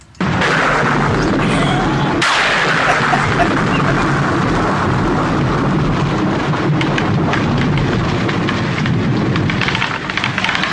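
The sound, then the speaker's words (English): A loud thunderstorm: heavy rain roars steadily while deep rumbling thunder cracks and rolls, with hail pattering sharply throughout. No voices, just the continuous downpour. “You know, that thunder sound effect, I think that was borrowed for Amityville 2, The Possession.”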